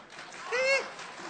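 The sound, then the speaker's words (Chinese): An audience claps in a steady, dense patter throughout, with a brief rising voice or cheer cutting through in the middle before the applause carries on at the same level. The applause follows a comic crosstalk performer singing a short song on stage. “可以鼓掌。”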